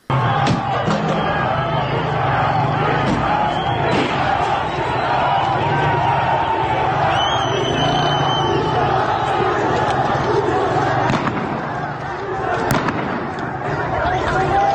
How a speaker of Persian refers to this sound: این صدا مربوط به اعتراضات تهران بود.